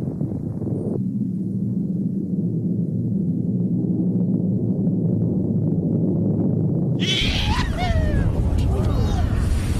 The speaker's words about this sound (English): Then from the depths of the earth, a deafening roar sounded, followed by a burst of black crude oil that blew like a massive champagne bottle that had just popped its cork.